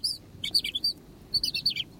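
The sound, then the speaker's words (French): A goldfinch sings in two quick bursts of bright, tinkling twitters and chirps, clear over a soft low background rumble, with no voices. “Attendez, parce que là j'ai du chardonnay d'un côté, puis un peu de Vivaldi d'autre.”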